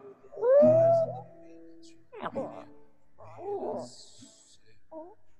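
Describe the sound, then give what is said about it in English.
A dog whimpers in a few strained, high-pitched whines, the first one long and loud, followed by shorter, fainter cries and snuffling sounds. “is that Inga? She sounds like she's dying. The lies of the mainstream media made us sick. Dad, is that your dog?”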